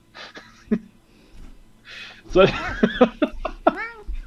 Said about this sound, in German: Deine Katze möchte aber reden. Das irritiert mich sehr, aber gut. Also wenn ich schon nichts zu sagen habe, dann hat mein Kater was zu sagen. Ja, genau. Der jetzt auch direkt vor dem Mikrofon sitzt.